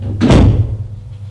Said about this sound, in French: Elle l'entraîne chez elle, ferme la porte avec le pied.